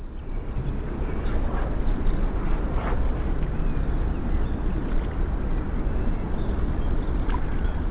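ocean waves

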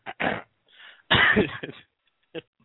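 throat clearing

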